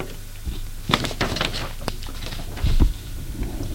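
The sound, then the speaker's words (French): A man slides a drawer shut with a few quick wooden clicks and rattles, ending in a soft, low thud. No voices are heard. “referme le tiroir.”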